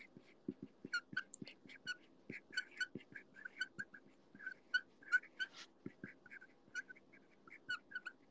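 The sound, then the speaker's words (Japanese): A pen squeaks repeatedly while a schedule is written out by hand, a quick, irregular run of short high-pitched chirps over soft low taps, with no one talking. “てかこのキュッキュッキュッって音今更だけどキモくない？”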